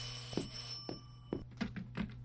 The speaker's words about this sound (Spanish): ¡Ay, ese teléfono! ¡No para, no para!